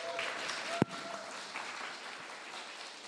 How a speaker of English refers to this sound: Wow, let's give these guys a round of applause.